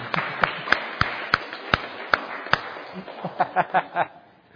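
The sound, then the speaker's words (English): Sparse, sharp hand claps land at a steady beat of about two per second, then give way to a few short bursts of chuckling laughter before fading out. Audience applause for an assistant after a meditation demonstration at a talk. “A big round of applause for my assistant.”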